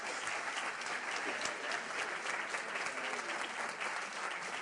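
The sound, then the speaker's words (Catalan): Sustained audience applause welcoming the Tarragona baritone Àngel Òdena, a dense steady patter of many hands clapping at an even loudness throughout, with no voices rising above it. “I bé, resulta que em giro i està aquí l'Àngel Òdena, si podem rebre amb un aplaudiment.”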